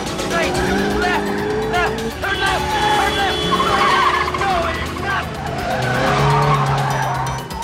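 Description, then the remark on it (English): A police squad car weaves hard left and right, going the wrong way on a one-way street, its tires squealing in repeated sharp bursts over a loud engine roar, with voices talking in the background. “The squad car weaves left and right with Eve in hot pursuit.”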